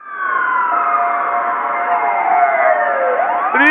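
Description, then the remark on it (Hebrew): A police car siren, a patrol car called to Neve Sha'anan 54, wails loudly and steadily, its pitch sweeping and gliding in overlapping tones, with no voices present. “סליחה, שלום, אפשר ניידת בבקשה לנווה שאנן 54?”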